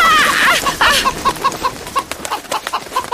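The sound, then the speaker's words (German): A hen clucks in a rapid, agitated series of short notes, starting with a louder squawking burst and settling into steady repeated clucks, as someone trying to catch it disturbs it while it forages for food on a wet lawn. “Scheint ganz so, als sei die Henne nur wenig begeistert davon, dass du sie beim Futtersuchen störst.”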